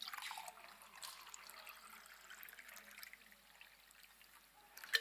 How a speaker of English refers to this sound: And yes, I suspect the carpet is going to get wet. But it's special carpet built for the purpose. This is water.